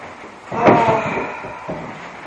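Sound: chair being moved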